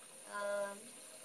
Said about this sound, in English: Alright, I have the bath running.